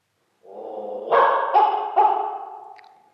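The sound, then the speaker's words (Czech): A small dog named Chiba lets out a drawn-out, whiny bark that breaks into three quick yelping pulses before trailing off, fairly loud, with no one talking. “vy znáte přece všichni mého malého pejska Chibu, jeho radostné oči a jeho ocas, kterým stále vrtí.”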